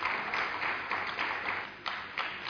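Steady applause from an audience at the Gyan Sarovar campus for a group of girls from Karnal after their stage performance, a dense wash of many hands clapping continuously at moderate volume with no voices, holding even throughout with slight swells.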